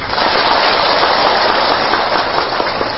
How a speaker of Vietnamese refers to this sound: Nên vì cái lý do đó mà thôi, chúng ta xin tán thán chung một tràng pháo tay.